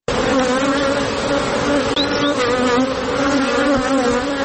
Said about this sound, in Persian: صدای این زنبورها برای زنی که به زنبورداری عشق می‌ورزد خیلی گوشنواز است.